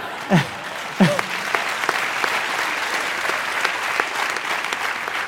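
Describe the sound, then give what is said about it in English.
Children and teenagers lined up on a fence cheer outdoors at a drone launch: two high whooping shouts ring out near the start, followed by steady clapping and excited crowd noise that carries on at an even level. “I wanted to show you the kids and the teenagers who line up on the fence every day, and they cheer every launch and every landing.”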